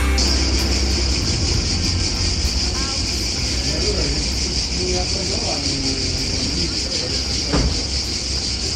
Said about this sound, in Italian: Lo so. È un po' il suono che Leonardo Manera, il suono delle cicale che Leonardo Manera ha reso celebre qui col suo radiodramma. Ma ci sono le cicale dove sei tu?